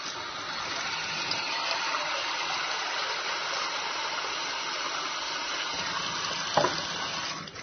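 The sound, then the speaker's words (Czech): A steady rush of water pouring into a large pan, as 1 to 2 liters of water are added to 7 or 8 tablespoons of baking soda, runs continuously for several seconds, with a brief knock or clink near the end and no voices. “Dok se šporet greje, mi ćemo u veliki tiganj staviti 7 ili 8 supenih kašika sode bikarbone i liter do 2 vode.”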